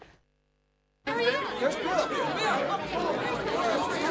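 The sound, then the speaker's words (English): After a moment of near silence, a dense wash of crowd chatter at a party bursts in and stays loud and steady, many overlapping voices talking at once. “Now Bill arrives at the party.”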